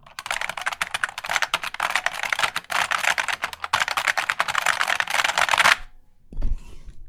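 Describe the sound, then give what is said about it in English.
Rapid, dense clicky keyboard typing fills nearly six seconds, loud, with clacks tumbling over each other in a driving rhythm before cutting off into a brief low thump; the keyboard sounds form an electronic dance music track. “Yeah, but listen, keyboard nerds who have an overlap with music skills, if you can make a rave song composed entirely out of clicky keyboard sounds and send it, that would make me very happy.”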